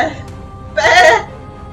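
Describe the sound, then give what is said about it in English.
A person lets out one short, loud sheep-like bleat, a wavering nasal baa lasting under half a second, that imitates a sheep. Quiet background before and after. “Is it bad that when you said that I imagined space the final frontier, but as a sheep?”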